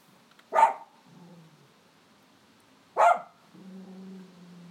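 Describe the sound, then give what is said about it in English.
An old, deaf male poodle gives two sharp, loud barks a few seconds apart, each trailing into a low, rumbling growl, with quiet background between them. “Shut up, you deaf old poodle. He's made another dog bark now.”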